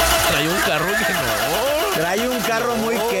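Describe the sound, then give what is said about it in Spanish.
A voice imitates a car engine, a continuous buzzing rumble that revs up and down in pitch for about three seconds, steady and fairly loud. “Qué bueno que se escuchó el efecto.”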